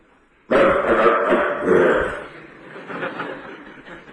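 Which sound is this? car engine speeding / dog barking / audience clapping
dog barking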